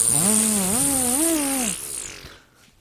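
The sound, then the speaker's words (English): A small weed trimmer engine buzzes loudly for under two seconds, its whine wavering up and down as it revs, then winds down into quiet. “That was more of a weed trimmer.”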